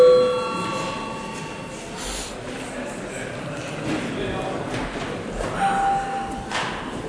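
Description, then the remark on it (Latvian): A parliament session bell, an electronic chime, rings briefly at the start as a recess is called, with a second short tone later, over the steady murmur and shuffling of many people. “Lūdzu zvanu.”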